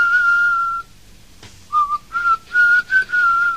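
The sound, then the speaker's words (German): A clear whistled melody from an English-language song: one long sustained note, a short pause, then a string of shorter rising and falling notes in a lively rhythm, bright, with no voices. “Das war dann das Englische mit dem Pfeifen.”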